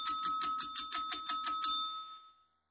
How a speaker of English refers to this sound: And with that, I'm going to ring the golden bell.